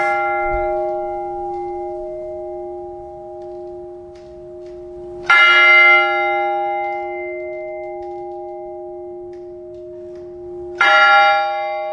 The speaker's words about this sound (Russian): Благовест может звучать минут 15. То есть это равномерные удары через определенное время. Но у каждого это время определенное, свое время. Точного такого нет.